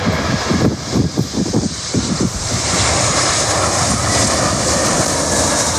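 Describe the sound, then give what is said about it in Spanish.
Loud, steady roar of airplane jet engines at Adolfo Suárez Madrid-Barajas airport in Madrid, a broad whooshing hiss with a few deeper rumbling surges early on, continuing unbroken for several seconds with no voices. “Al otro lado, los protagonistas son, claro, los aviones.”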